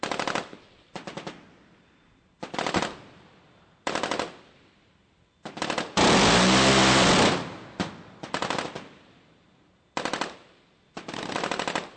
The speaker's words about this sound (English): The radar-guided cannon has 6 rotating barrels that can fire 75 bullets per second.